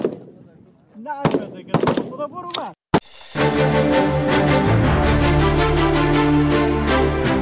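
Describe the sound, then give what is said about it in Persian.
Several sharp, loud gunshots crack in an irregular burst over the first few seconds as Afghan women fire at targets in shooting practice, with voices talking between them, before a dense, steady musical bed takes over. “با آن هم این زنان بی توجه به آینده ناروشن تلاش دارند تا گلوله‌هایشان به هدف بخورند و برای کشورشان تأمین امنیت کنند.”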